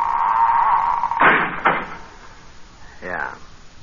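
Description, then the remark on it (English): A heavy iron door in a thick stone wall around an ancient Roman village swings on a long, steady creaking hinge, then bangs shut with two loud, booming impacts, followed by a brief rattling scrape. “The iron door swung shut and we were in an ancient Roman village.”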